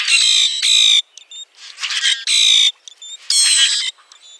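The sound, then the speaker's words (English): Common grackle calls: four loud, harsh, buzzy squawks alternate with brief thin whistled notes and rattly bursts, filling a few seconds with no talking. “You can hear the roaring calls of common grackles in the eastern U.S. and Canada.”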